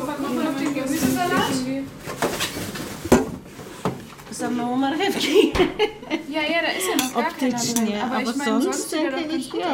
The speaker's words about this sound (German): Wir stehen in der Küche. Mama, Papa, meine Geschwister und unsere Partner. 8 Leute schnippeln, schälen, rühren und backen. Es ist der Tag vor Ostern.